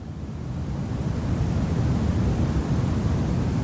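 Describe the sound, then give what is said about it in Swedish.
A small white noise machine gives off a steady, even rush of noise, fairly loud and weighted toward the low end, rising slightly in the first second and then holding constant with no voices. “man köper en liten maskin som för 800 spänn som gör brus”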